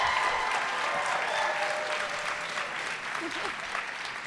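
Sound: audience clapping loudly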